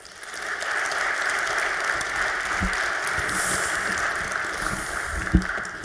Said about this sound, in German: Also einen warmen Applaus bitte